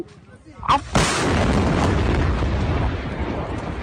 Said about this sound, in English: Massive explosions recorded again by residents flattened more than 500 buildings. Large plume of black smoke still billows above wrecked buildings and scattered debris.